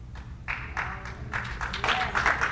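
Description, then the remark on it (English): A smattering of scattered pity applause, a few uneven claps that build slightly into brief, thin clapping over a low background hum, with no voices standing out. “And yes, and the pity applause here.”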